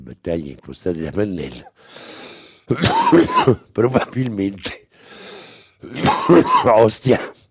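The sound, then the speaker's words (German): A loud live on-air coughing fit from radio host the host on an Italian press-review radio show: clusters of harsh, strained coughs broken by raspy, wheezing gasps for breath, repeating several times in a rough, uneven rhythm. “Legendär die fast täglichen Live-Hustenanfälle des kürzlich verstorbenen Moderators …, der die Sendung 3 Jahrzehnte lang moderiert hat.”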